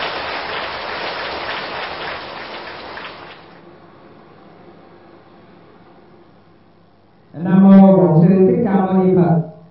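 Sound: audience applause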